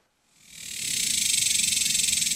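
cicadas buzzing loudly

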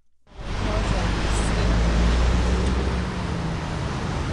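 traffic

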